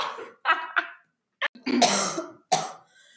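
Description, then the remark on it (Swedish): A burst of several harsh coughs in quick succession, with short gaps between them, ending in a louder, raspy cough with a breathy tail. “Hostpaus!”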